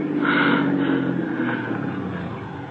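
A car engine drones steadily as a car approaches, a low rumbling hum with a slightly rising, whirring tone that holds for a few seconds without any voices.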